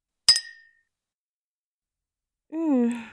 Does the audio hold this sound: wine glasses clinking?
yes